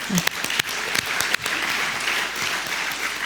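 Dense applause from a crowd, many hands clapping at once with a few sharper claps standing out early on, steady and fairly loud throughout, given in thanks to a foundation for its work for democracy.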